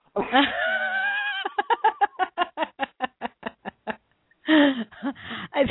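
A sheep lets out a long, wavering bleat that breaks into a quick run of stuttering, pulsing cries, then gives another strained bleat near the end, loud and close with no one talking.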